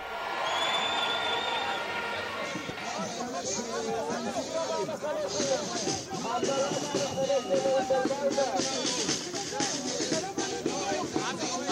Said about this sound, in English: The crowd in Tel Aviv swelled to more than 80,000 people despite rainy weather there. Demonstrators, many covered by umbrellas, held signs and chanted slogans like criminal government or the end of democracy.